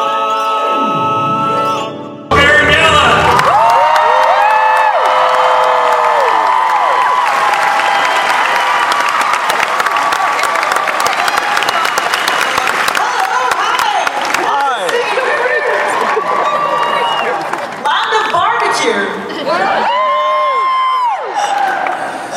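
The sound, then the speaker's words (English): A large convention crowd at Planet Comic Con, the biggest it has ever assembled in one room, bursts into loud, sustained applause and cheering after a brief quieter moment, with rising whoops and shouts layered over dense clapping that continues for about twenty seconds. “Start off by saying this is the biggest crowd Planet Comic Con has ever assembled in one room.”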